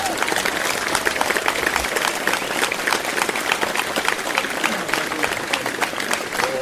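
A festival crowd at the Bolido Viz Festival applauds a country and bluegrass duo steadily, dense overlapping claps forming a continuous bright wash with scattered louder claps, holding a fairly even, loud level throughout with faint murmuring underneath.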